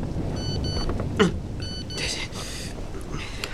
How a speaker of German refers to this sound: Hey, das wird die SMS sein, auf die ich schon seit Stunden warte.